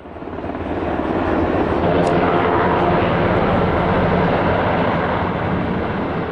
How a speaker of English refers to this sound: This week, that sound of Black Hawk and Chinook helicopters opens our focus on the U.S. Army, the latest in a series of annual episodes in honor of Veterans Day.